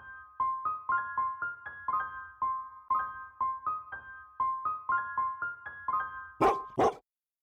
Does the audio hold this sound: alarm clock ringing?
no